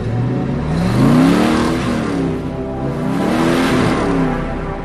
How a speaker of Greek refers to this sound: Οι κινηματογραφιστές είχαν καταγράψει ένα κινητήρα από μια Mustang 428 Super Cobra Jet του 1970, τον κινητήρα της οποίας ακούμε να μαρσάρει κάθε φορά που η Κριστίν θέλει να επιταχύνει ή να μαρσάρει.